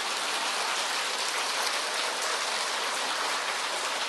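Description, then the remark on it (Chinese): Steady, dense applause from an audience encouraging a joke teller, a continuous hiss of many hands clapping at an even level for several seconds with no voices over it. “在你们的掌声鼓励下，我再讲一个。”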